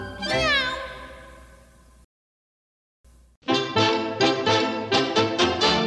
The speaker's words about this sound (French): Miaou, miaou, qu'il est touchant le chant du chat, ronron, ronron, et vive le chat, et vive le chat.